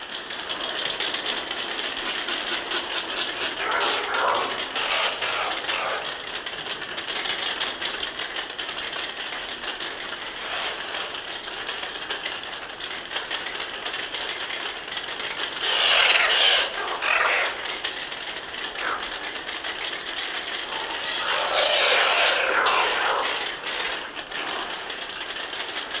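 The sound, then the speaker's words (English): A dense, continuous din of harsh, rasping screeches from many oilbirds calling together in a cave, swelling into louder clattering bursts several times, with no voices present. “And we're going to listen to a group of oil birds in a cave.”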